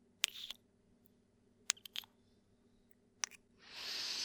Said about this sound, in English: Our heads pressed together as we're panting. And I'm kissing you.